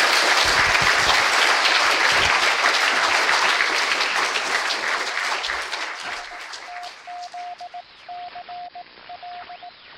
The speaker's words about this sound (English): Thank you very much to Gordon for bringing the debate today right up to date as well. So if everyone would like to give Gordon a round of applause.